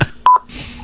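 A short electronic phone notification tone, two quick bright beeps close together at a steady pitch, clear against a quiet background with faint noise afterward.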